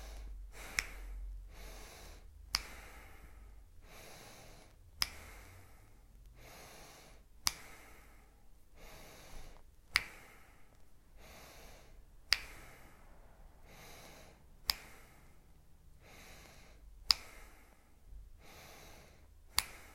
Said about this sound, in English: Second round, when you're ready, breathing in.